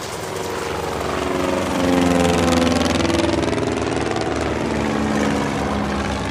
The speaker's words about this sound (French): L'orage cesse et ils sortent de l'église. Ils voient arriver un hélicoptère. Ils font un signe au pilote.